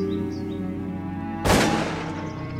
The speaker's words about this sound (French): Bon, alors les oiseaux qui veulent échapper à la chasse, en fait, parce qu'on entend donc là les détonations, ils viennent ici.